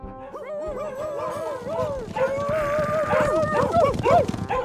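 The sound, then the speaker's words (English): A pack of dogs howls and yelps together in overlapping, wavering cries with excited barks mixed in, continuous for several seconds and growing louder and more frantic toward the end. “The dogs are coming.”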